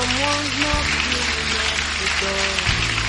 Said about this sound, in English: The rest of us, let's clap for Jesus, for those who are coming. Let's rejoice.